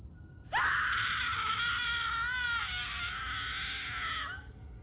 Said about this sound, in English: The woman placed her hands over her face as she screamed in agony.